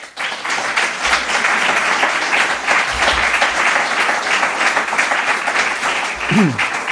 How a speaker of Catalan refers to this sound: m'agradaria donar doncs, les gràcies al gran poeta que avui ens acompanya per la seva humilitat, per la seva prestació, pel seu interès en el llibre i per moltíssimes coses més. I per tant, des d'aquí, reivindico novament un fort aplaudiment per ell.